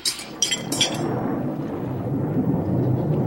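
A deep rumble of thunder rolls on steadily with rain pattering, a few sharp crackles at the start before the low booming storm noise fills the rest.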